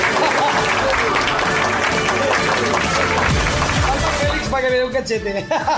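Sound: applause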